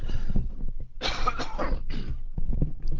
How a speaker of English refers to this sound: Excuse me, I just have to have a little cough here.